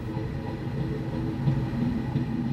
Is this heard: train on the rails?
yes